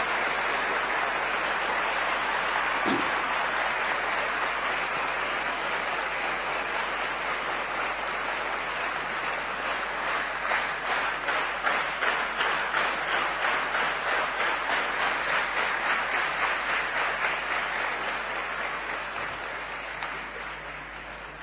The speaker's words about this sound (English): Let us all join together in thunderous applause, in full appreciation.